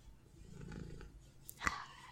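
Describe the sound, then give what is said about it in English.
A cat purrs softly, a low fluttering rumble that swells briefly and fades, followed by a couple of small clicks or rustles. “I love those purrs.”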